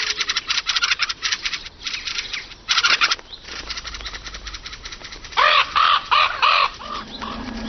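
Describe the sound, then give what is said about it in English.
Fieldfares mob a hungry raven that threatens their chicks, with loud, harsh chattering calls in rapid repeated bursts, punctuated by a few louder, rasping outbursts near the end. “When a hungry raven eyes their chicks, field fares fight dirty.”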